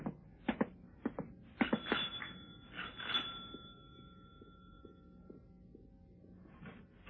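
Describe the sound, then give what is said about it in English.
A front doorbell, rung by men from Scotland Yard on a Saturday, rings with a clear, bright chime that lingers and slowly fades, following a few sharp clicks and thumps; no one speaks. “I thought I'd take a walk to Hyde Park and was leaving my room to go downstairs when the front doorbell rang.”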